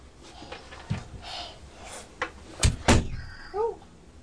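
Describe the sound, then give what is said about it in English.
A door blown shut by the wind bangs with a couple of heavy thuds, loud, followed by a faint creak or squeak; soft rustling and background noise surround it, with no talking. “The wind blew the door shut.”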